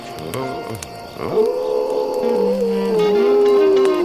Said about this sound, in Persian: بعضی وقتا زوزه کشیدن یه بچه گرک فرکانسش از صدای بعضی آدم ها بالاتره.